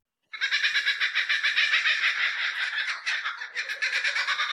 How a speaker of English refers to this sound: You hear the distant cackle-cackle of a kookaburra, Australia's famous laughing bird.